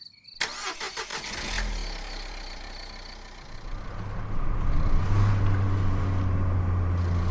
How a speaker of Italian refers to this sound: Mette in moto la macchina e riparte.